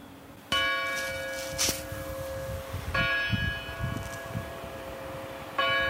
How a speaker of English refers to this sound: And then in the town center, it's just really quiet. The most exciting thing that happened when I was there, the church bells rang.